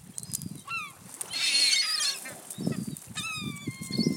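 bird, seagulls calling

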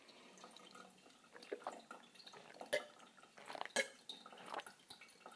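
household object, water

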